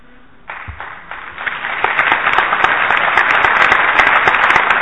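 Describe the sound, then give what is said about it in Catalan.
An audience bursts into applause, starting with a few scattered claps and quickly swelling into dense, sustained clapping that grows steadily louder throughout. “Aquí us ho agraeixo, però aquí no us hi havíeu d'aplaudir perquè estic dieu que treballeu, vaja, no?”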